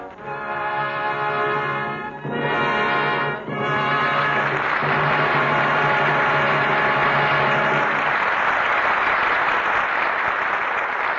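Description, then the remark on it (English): Loud, steady studio audience applause calling Edward G. Robinson, Marlena Dietrich and George Raff back to the microphone for a curtain call, over a sustained organ-like chord that breaks briefly twice, then fades out around eight seconds, leaving the clapping alone at full strength. “Your applause is a command.”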